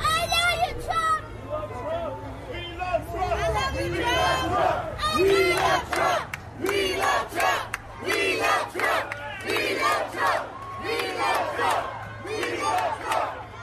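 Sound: crowd cheering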